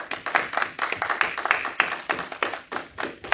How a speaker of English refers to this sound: And as we would do if you all were here, let's give the Lord a round of applause for bringing us into another month.